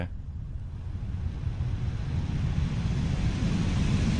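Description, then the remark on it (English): A heat pad blower is switched on and starts slowly, then runs with a steady, low rumbling whoosh of air that slowly builds in strength, blowing air in a steady flow that goes on and off. A single short word is spoken near the start. “So that's blowing air into...”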